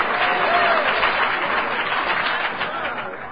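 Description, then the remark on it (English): Audience members from Al-Anon clap in a dense, steady patter that holds at an even, fairly loud level for a few seconds, with no clear voice rising above it. “Only the Al-Anons were clapping.”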